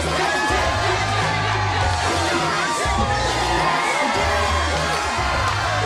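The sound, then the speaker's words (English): A crowd at a party cheers and shouts continuously, voices overlapping in loud, excited whoops and yells, encouraging Elle as she drinks shot after shot, over a steady low thump of party music throughout. “Encouraged by the crowd, Elle drinks shot after shot.”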